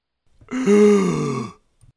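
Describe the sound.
A man who had been limp and not breathing for a minute or two takes a single deep, voiced gasp for air, loud, lasting about a second with a groaning quality that slides downward in pitch before cutting off, followed by a faint breath.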